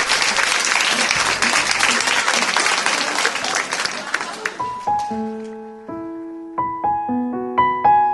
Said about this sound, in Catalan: Un fort aplaudiment